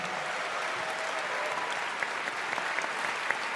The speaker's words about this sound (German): Team Grün, einen riesigen Applaus für Team Grün.